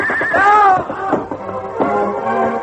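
horse neighing and hooves

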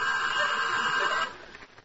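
telephone ringing

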